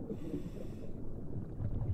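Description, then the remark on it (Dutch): A low, steady rumble of ship traffic engines heard underwater, a continuous muffled drone with faint hissing above it and no voices. “Dus wat wij horen, dat is scheepvaart.”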